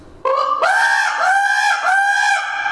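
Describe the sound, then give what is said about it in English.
A raven locator call made by blowing a goose call while rolling the tongue: loud, raspy, nasal honking notes in a quick run of three or four connected bursts, strong, with no talking. “If you can blow a goose call and roll your tongue, you can make a raven or a crow.”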